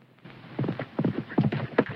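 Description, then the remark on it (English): The hooves of Virgil's horse clip-clop in an uneven, galloping rhythm as he approaches the homestead, the dull thuds growing somewhat louder and closer over two seconds, with no voices present. “The patriarch squints slightly, tuning into the sound of Virgil's horse's hoofbeats as he approaches the homestead.”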